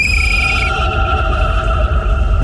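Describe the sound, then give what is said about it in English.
A ghost whistle, also called a spirit whistle, is blown at some caves, a long, steady eerie tone with several layered high harmonics, sustained over a constant low rumble, no voices present. “Let's try the ghost whistle.”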